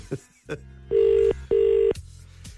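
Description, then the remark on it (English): An outgoing phone call to a McDonald's in Dundalk rings out with a double-pulse ringback tone: two steady, equal-length buzzy tones in quick succession, fairly loud and clear, with faint clicks before and after. “It's ringing.”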